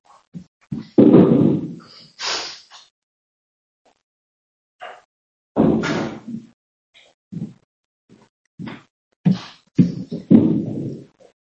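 A door being closed, with a scatter of heavy thuds, clicks and bumps spread over several seconds and quiet gaps between them. No one speaks.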